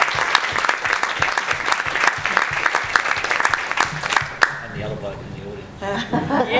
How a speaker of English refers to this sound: on behalf of the Town of Port Hedland, just want to convey our very best wishes for your upcoming wedding on Saturday. How about a round of applause for Councillor Hunt?